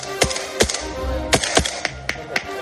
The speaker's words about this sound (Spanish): Estos disparos no son de la guerra de Israel y Hamás. Son disparos de la guerra de Ucrania y Putin. De la guerra de Ucrania contra la invasión de Putin.